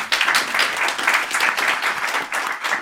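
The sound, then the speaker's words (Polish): A studio audience at a debate applauds steadily, many hands clapping in a dense, continuous wash of noise that holds a fairly even loudness throughout, with no voices heard. “Wielkie brawa.”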